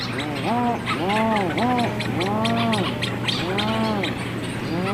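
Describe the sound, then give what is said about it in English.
Just before dawn, a dense seabird colony fills the air with overlapping low, moaning moo-like calls, rising and falling in rolling waves that sweep across the whole colony, loud and continuous over a steady background hum. “because they get out, and then as the light starts coming back, the petrels die down, and then it's just these waves of these moos that kind of sweep across the whole colony.”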